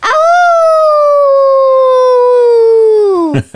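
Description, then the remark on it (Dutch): A person imitates a wolf's howl, one long loud sustained call that rises at the start, then slowly falls in pitch before breaking off. “Een wolf die aan het roepen is.”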